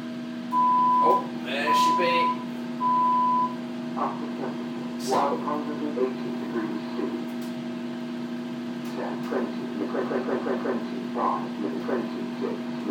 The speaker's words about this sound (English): I hate it though, because when you want it to go real fast, it takes forever. That's my microwave for you.